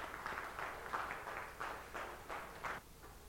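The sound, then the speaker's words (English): A small group claps for participants who played sheep and a shepherd, in a loose, steady rhythm, the faint patter of hands coming in regular bursts before tapering off. No voices are heard. “Can we applaud all of our sheep and our shepherd?”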